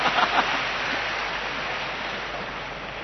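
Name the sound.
audience applause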